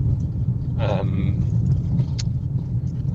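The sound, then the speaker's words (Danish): A car rolls steadily along a long gravel road, a constant low rumble of engine and tires with a gritty, crackling texture and a few brief higher scrapes. “Så kommer ud på en grusvej. Lang grusvej.”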